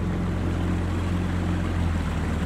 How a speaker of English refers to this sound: points the boat upstream and we cross the invisible line from Limerick just into Clare to visit an iconic engineering project, one of the most ambitious of its time when it was built 100 years ago.